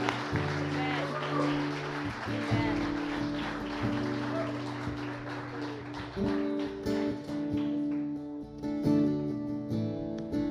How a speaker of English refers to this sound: And I just want to give God a big clap for this word. Amen.